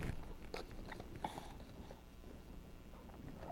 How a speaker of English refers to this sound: To stay strong and healthy, the brown horse eats all day. In the stable or the field, he munches on some hay.